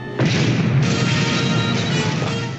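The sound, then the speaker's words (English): Weapon fire from Captain Kirk's ship strikes an enemy vessel, scattering debris: a sudden, loud crashing explosion that roars steadily for over two seconds with a couple of rumbling surges before it cuts off. No voices. “Ceasefire. Debris scattering ahead, sir. We've hit him.”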